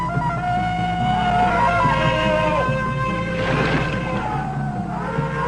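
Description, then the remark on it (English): A loud, drawn-out jungle warning yell from a human voice, Tarzan's warning cry, warbling and yodeling up and down in pitch, unaccompanied for about five seconds. “Tarzan's awesome warning cry is known to every living creature in the jungle.”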